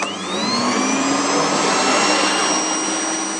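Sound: vacuum cleaner running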